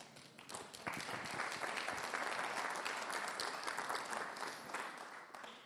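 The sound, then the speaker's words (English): A crowd breaks into sustained applause, many hands clapping in a dense, steady wash that swells quickly after a brief start and holds loud before tapering slightly at the end. “Friends, let us stop waiting for something that we don't think has come yet and start rejoicing that we are a part of something amazing that God is doing right now, and now you can applaud.”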